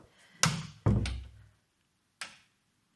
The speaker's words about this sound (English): Yeah, I can shut the door.